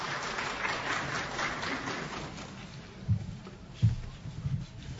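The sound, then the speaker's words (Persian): An audience at a gathering of artists claps steadily in a dense, even patter that holds for several seconds, with a few heavier low thumps near the end. No one speaks. “جمهور رو شایسته و بایسته تشویق بدن.”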